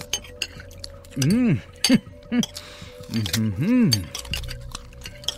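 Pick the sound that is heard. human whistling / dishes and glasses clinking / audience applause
dishes and glasses clinking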